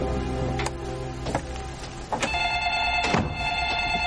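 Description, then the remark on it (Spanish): A telephone in a house kitchen rings with a steady electronic tone that starts partway through, on a rainy day, mixed with a few sharp clicks and knocks as letters and keys are set down on a hallway cabinet; no one speaks. “Coge el teléfono en la cocina.”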